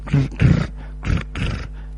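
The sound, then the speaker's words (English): A voice imitates the buzzing engine of someone starting a motorbike with four short, throaty, growling bursts, low and raspy, rising and falling in loudness with brief gaps between them. “And then suddenly there's a buzzing noise.”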